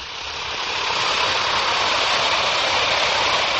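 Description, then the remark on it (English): A steady, hissing fizz of an Alka-Seltzer tablet dissolving in water, bright and crackly, swelling slightly at first then holding constant for several seconds with no voices. “Now, listen to it fizz.”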